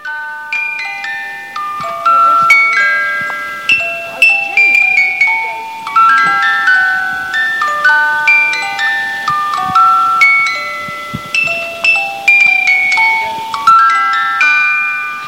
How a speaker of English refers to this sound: Yep, I love musical boxes.